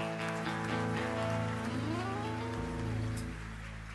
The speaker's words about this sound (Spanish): Uma salva de palmas.